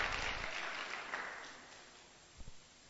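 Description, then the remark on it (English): A church audience applauds the people who set up the chairs and PA system, a dense wash of many hands clapping that gradually thins and fades over a few seconds, with a couple of soft low thumps near the end and no voices. “Please clap for those people who do this work.”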